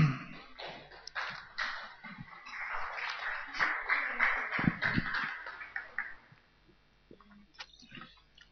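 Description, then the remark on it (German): A church audience breaks into applause before the Amen, a dense patter of many hands that builds over several seconds, then thins out into a few scattered claps and taps. “Es war zu früh, eigentlich klatscht man erst nach dem Amen.”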